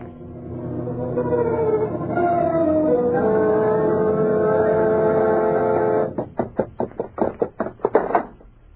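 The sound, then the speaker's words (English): A heavy chain drags and clatters up the cellar stairs: a long, eerie moaning drone gives way to about ten loud, rhythmic clanking thuds, fairly steady, with no talking. “What was that noise deep down below in the cellar, as if someone were dragging a heavy chain?”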